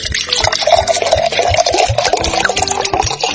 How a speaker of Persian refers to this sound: حالا برای اینکه خیلی هم خالی از غذا نباشه یه آبی بذارم جوش بیاد، دور هم یه چای بخوریم.